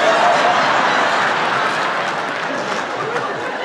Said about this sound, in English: The Gentiles are clapping and the Jews are clapping.